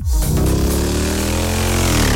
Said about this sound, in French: Oui. Ah, ça paraît évident, là, c'est un scooter qui démarre.